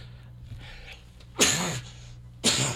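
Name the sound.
sneeze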